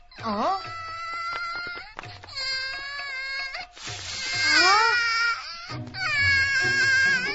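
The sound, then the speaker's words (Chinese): A baby wails loudly and close by in four long, rising-and-falling cries, each separated by a brief catch of breath. “有小孩的哭声。”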